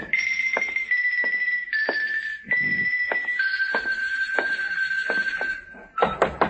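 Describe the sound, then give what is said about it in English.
Repeated sharp knocks on a door, about ten in an uneven rhythm, sound over a steady, high ringing tone that drones through the whole stretch. Nobody speaks. “Come on, open up, will you? I got a message for you. Come on, answer the door.”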